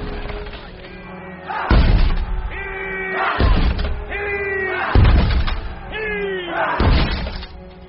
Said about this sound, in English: This is your city Stannis means to sack. That's your gate he's ramming.